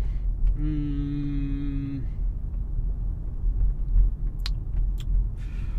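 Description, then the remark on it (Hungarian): A video game car drives along and turns right, with a steady, loud low engine rumble throughout. A buzzy, horn-like tone holds for over a second early on, and a few sharp clicks come near the end. “Szóval tudunk itt kocsikázgatni.”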